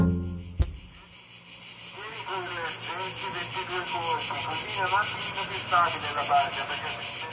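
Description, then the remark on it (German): Loud cicadas on a steep forest slope by Lake Lugano, Switzerland, buzz continuously in a dense, shrill drone with a fast pulsing rhythm, joined by softer chirping sounds underneath and a single sharp knock near the start. “Was man sicher auch hört, sind die Zikaden, sehr laut hier an diesem steilen Waldhang.”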